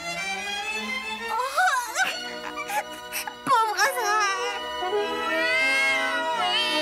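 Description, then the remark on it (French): A cat named Azrael meows plaintively in a series of long, wavering cries that rise and fall in pitch, fairly loud, continuing almost without pause for several seconds. “Et voilà, mon petit chat.”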